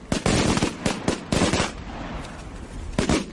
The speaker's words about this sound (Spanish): Petardos y tracas había que haber soltado en Los Ángeles